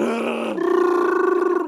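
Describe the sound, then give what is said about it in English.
A person imitates an animal growl with one sustained, loud vocal rumble, shifting into a rapid pulsing rattle halfway through before cutting off. No talking. “No, it's more the growl, isn't it?”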